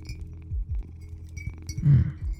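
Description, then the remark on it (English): A glass water bottle clinks and knocks, a few light taps and bumps over about two seconds with a louder clunk near the end, no voices. “It's kind of a nice water bottle though. But why does it have to be from glass?”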